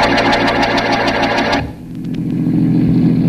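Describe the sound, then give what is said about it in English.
Inspector Faraday's patrol car engine runs steadily with a rough, rhythmic mechanical hum, loud, then drops to a lower, muffled rumble partway through as it keeps driving on the way to Charlie's. “Faraday, why'd you insist on taking your patrol car?”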